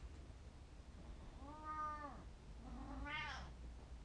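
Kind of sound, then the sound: animal, cat meowing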